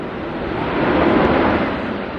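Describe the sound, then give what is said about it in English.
An Airbus A380, the world's largest airliner, passes overhead at the Paris Air Show as a steady, broad roar that swells slightly toward the middle and then eases, with no voices. “Even as the world's largest airliner, the Airbus A380, flies overhead, its manufacturers tout its quiet and fuel-efficient engines as much as its passenger capacity or cabin comfort.”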